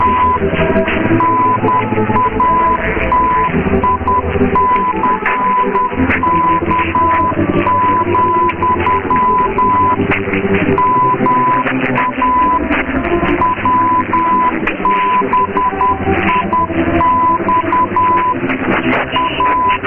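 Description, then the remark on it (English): A steady, high beeping tone keyed on and off in rapid Morse code patterns, part of a WBIN (Natick, Massachusetts) test broadcast of tones and codes for distant radio listeners, heard over a dense, muffled radio signal with hiss and murmuring background noise throughout. “This is WBIN, Natick, Massachusetts, Whiskey, Bravo, India, Xylophone, with the Briefcast broadcast of tones and more codes for distant radio listeners.”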